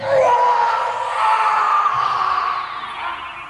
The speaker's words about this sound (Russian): Вдруг тишину ночи прорезал ужасный хриплый крик, которого я не слышал никогда в жизни.